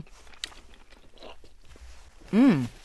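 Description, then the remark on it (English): Someone chews a whole piece of salted fish with finer salt in one mouthful, with soft, irregular wet mouth sounds, then lets out a loud, drawn-out voiced hum of approval near the end. “I'm going to go for one with the finer salt, okay. Too. The whole thing in my mouth, one big gulp.”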